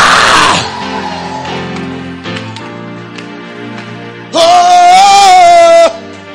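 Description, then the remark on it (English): An audience erupts in loud screams and shouts for joy, with a burst of noisy cheering at the start, a lull of ringing tones, then a long, piercing sustained scream near the end. “Let the redeemer of the Lord shout for joy. Let the redeemer of the Lord scream.”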